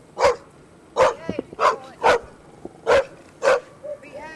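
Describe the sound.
A small, scruffy black dog named Scarlet barks an alarm as her owner climbs out of a trailer: six sharp, loud yaps at an uneven, insistent pace, with faint murmuring voices in the gaps between barks.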